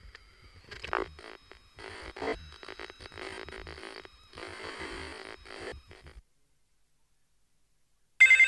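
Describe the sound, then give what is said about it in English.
A telephone rings with warbling electronic bursts for several seconds, goes silent, then a sudden louder ring cuts in at the very end. No one speaks. “My phone doesn't seem to be working.”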